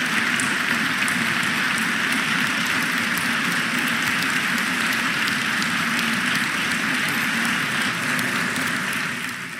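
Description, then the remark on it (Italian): Sustained applause from a large audience at the Teatro Dal Verme in Milan, greeting the end of the first part of a public event with 2024 Nobel literature laureate Han Kang presenting The White Book in Italy, a dense steady wash of many hands clapping at an even loudness throughout, with no voices standing out. “Gli applausi che hanno salutato la conclusione della prima parte dell'incontro pubblico di Han Kang, premio Nobel per la letteratura 2024, in occasione della presentazione in Italia al Teatro Dal Verme di Milano del libro, anzi di Il Libro Bianco,”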